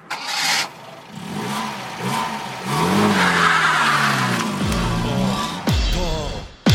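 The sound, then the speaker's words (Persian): An old car engine cranks and catches, then revs up hard and roars away, its pitch climbing steadily. The sound is loud, with a sharp burst near the end. “عجب ماشینیه، چقدر سرعتی میره.”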